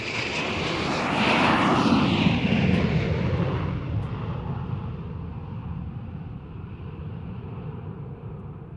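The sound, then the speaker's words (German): A loud, steady roar of an airplane's engines in flight, swelling over the first few seconds and then settling into a constant droning rumble with no voices. “Ist wirklich ein tolles Flugzeug.”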